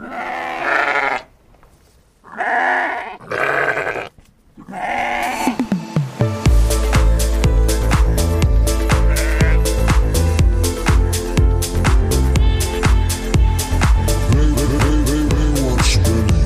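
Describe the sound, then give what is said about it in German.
Three drawn-out, wavering sheep bleats sound one after another, then loud upbeat music with steady drums starts and takes over the rest. “Jetzt kommen einfach ein paar Schafe und ihr müsst euch immer denken, es sind echte Schafe, aber es klingt so wie Menschen, die recht bemüht Schafe imitieren.”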